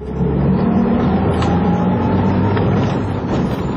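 A field guard's patrol jeep engine roars steadily, its low rumble building as field guard Barnabas Peter Heredi suddenly speeds up on a border patrol. Loud and continuous with no voices.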